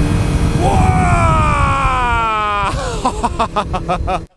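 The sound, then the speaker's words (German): A wooden Zille boat with a modern electric motor speeds along the Danube at about 50 km/h. Its high motor whine slides steadily down in pitch over a rush of water and wind, then turns into a quick pulsing throb before it cuts off abruptly. “Da ist ein ganz normaler, moderner Elektromotor dran und der bringt schon ein bisschen Power da rein.”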